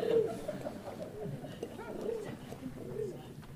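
Pigeons cooing, a series of low, throaty, rolling coos repeating every second or so over a soft murmuring background.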